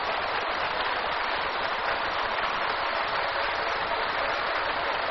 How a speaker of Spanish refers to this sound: Vamos a darle un fuerte aplauso a Jesucristo. ¡Aleluya!